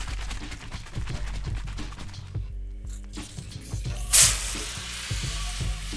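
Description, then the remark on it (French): A shaken soda bottle being opened, fizzing with a steady, crackling hiss throughout, broken by a sudden loud burst of high hissing partway through as the pressure escapes. No one speaks. “Le son d'une bouteille de soda qu'on ouvre. Oula ! On l'a un peu trop secouée, celle-là.”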